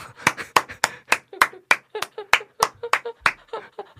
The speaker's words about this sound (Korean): 박수 나왔습니다.